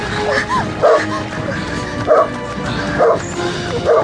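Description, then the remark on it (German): Several large, hungry dogs set on a chase bark and yip repeatedly in rough bursts, about once a second, over a steady background murmur, with some whimpering tones between barks. “Die Hunde. Das sind riesige Hunde. Und es sind hungrige Hunde, wie ihre grausamen Herrchen.”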